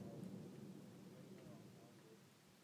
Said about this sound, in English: saying it's thundering here